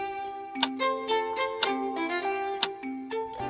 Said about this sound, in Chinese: 时间好像过得很慢，简直像蜗牛爬行一样。丽丝摇着时钟，想让指针走得快一点儿。